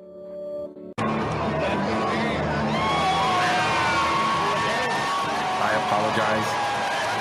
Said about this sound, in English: Let me adjust the volume. I apologize. That was extremely loud with the cheering. And it's distorted.